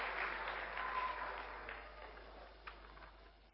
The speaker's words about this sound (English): Well done to the boys. But a round of applause to both of our team captains.